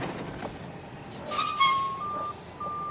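A garbage truck outside a room where a show is being recorded: its engine rumbles and hisses while a steady, high-pitched reversing beep sounds about three times in a slow, even rhythm. No one speaks.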